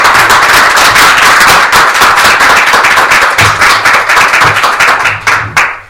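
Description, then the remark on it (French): Loud, sustained applause from a crowd, dense clapping filling the whole stretch before thinning into a few separate claps near the end. No one speaks over it. “Bon ben, je vous propose qu'on fasse un contrôle V vers la date d'apéro et puis comme ça on pourra les applaudir et les remercier.”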